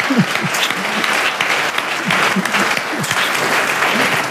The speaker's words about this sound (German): Ein großer Applaus für unsere Bundesrätin heute hier dabei.